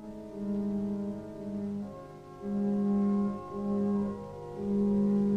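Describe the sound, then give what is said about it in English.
Mournful organ tones swell and sustain in a deserted auditorium gilded in gold, a slow sequence of low, droning chords shifting every second or so, with no voices. “The mournful tones of an organ ring out through a deserted auditorium gilded in gold.”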